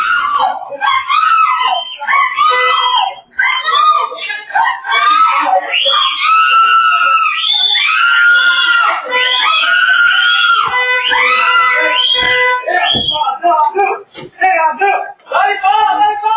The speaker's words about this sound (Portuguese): Em um ato de desespero, a mulher começa a gritar pedindo socorro.